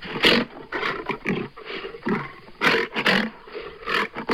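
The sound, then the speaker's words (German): A lion roars in a rapid series of deep, grunting bursts, about eight heavy pulses over a few seconds, loud and rough with no one talking. “Es ist der Löwe gewesen.”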